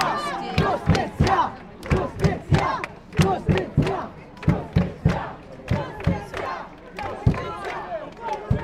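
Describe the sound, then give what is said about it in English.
A large, angry protest crowd outside Parliament in Malta shouts in unison, chanting in a steady, rhythmic pattern of loud bursts, roughly two per second, as protesters block cabinet minister Owen Bonici's car from leaving. “Eventually, Owen Bonici's car was allowed to leave, and the crowd gradually dispersed.”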